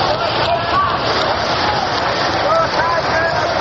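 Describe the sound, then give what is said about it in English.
A large stadium crowd at the 1935 All-Star Game between the National and American League roars as a band strikes up, a dense, unbroken wash of noise that holds steady at full volume, with faint musical tones from the band flickering through the din. “Now one has just been striking it up behind us here, and the crowd lets out a roar.”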